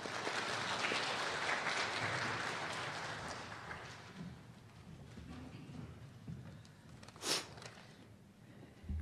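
An audience applauds, dense rapid clapping loudest at first and gradually thinning out over several seconds, leaving low murmur and one brief sharp knock near the end.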